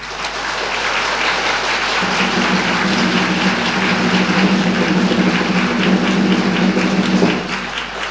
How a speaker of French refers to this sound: Et je crois que là aussi, nous pouvons l'applaudir bien fort.